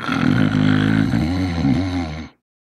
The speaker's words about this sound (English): I can remember my grandparents growing up, and they slept in separate rooms, and I never understood why until my grandfather fell asleep in the recliner one day, and I heard him snore.